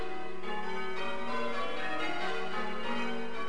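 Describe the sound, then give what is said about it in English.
Church bells rung by bell ringers to celebrate the Queen's birthday, pealing in a continuous stream of overlapping, ringing strikes, the tones blending into a rich, sustained wash with no voices. “Bell ringers will take any opportunity of a special occasion to do some extra bell ringing.”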